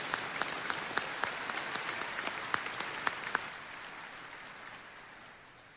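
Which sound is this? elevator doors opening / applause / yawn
applause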